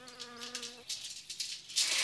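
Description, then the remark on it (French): A fly buzzes with a steady, droning hum for just under a second, then the buzz cuts off and gives way to scratchy, crackling rustles with sharp hissy bursts. “Mais puisque je te dis que jamais je n'ai vu une si belle mouche.”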